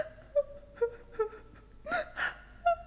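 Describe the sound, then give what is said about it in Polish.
A young girl cries in short, broken sobs, with several brief whimpering wails and sharp gasping breaths in between, alone with no talking. “Wyraźnie dziecko płacze.”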